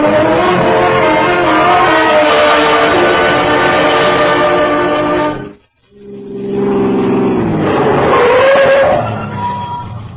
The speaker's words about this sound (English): Run down and get the car started.